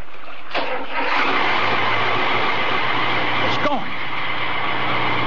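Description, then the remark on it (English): A boat engine catches with a sharp start and settles into a steady, droning rumble over broad hissing noise, with a brief clattering knock partway through. “Try the engine now.”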